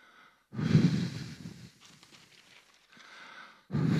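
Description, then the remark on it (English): Heavy breaths rush straight into the microphone: a loud, rough exhale, a quieter stretch of airy breathing, then another strong breath at the end. No talking. “It's all right, it's not the wind, it's my breathing.”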